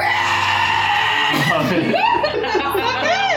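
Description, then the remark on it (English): A person lets out a sustained, piercing, high-pitched shriek in imitation of a goblin, wavering and squealing for a few seconds, with laughter-like bursts mixed in. “You just hear this like okay. Really kind of piercing goblin shriek.”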